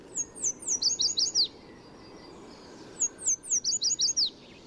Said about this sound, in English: In spring and summer, yellow warblers sing from treetops in city parks and streamsides from Mexico to Canada. These lemon yellow birds especially love willow trees near running water, perfect for building a nest and finding food.